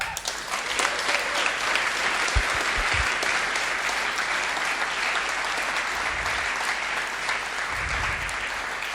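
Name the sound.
audience applause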